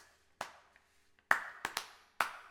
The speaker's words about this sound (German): Und dann klatschen Sie mir bitte nach.